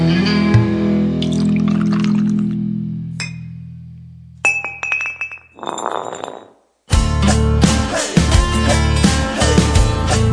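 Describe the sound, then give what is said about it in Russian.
Glasses clink and ring, then liquid is poured briefly into a glass before music starts up loudly. No one speaks. “Значит, будем пить еще. Это очевидно, очевидно. Налить? Наливай!”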